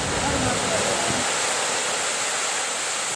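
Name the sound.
stormy ocean surf crashing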